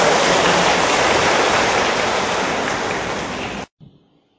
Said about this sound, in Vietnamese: Chúng con đây đầu cung thỉnh Hòa Thượng và xin tất cả hội trường dành một tràng pháo tay để cung minh Hòa Thượng.